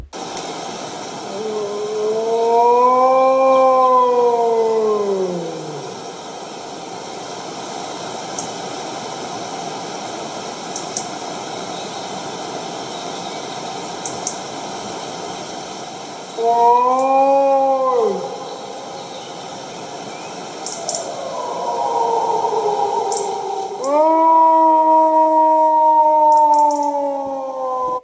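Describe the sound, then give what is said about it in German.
Wolves howling in a nearby forest: a long rising-and-falling howl, a shorter one, then several overlapping howls from more than one wolf, with a steady hiss underneath, a robin clicking and blackbirds singing in the background. “Doch hört selbst, anstatt Intro, eine Wolfsaufnahme aus einem nahen Wald meines Platzes zur Einstimmung.”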